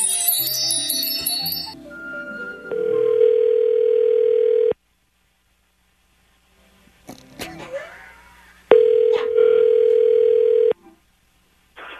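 A telephone tone while a call is placed: two steady, buzzing mid-pitched tones, each lasting about two seconds, separated by a quiet gap with a few brief clicks and rustles.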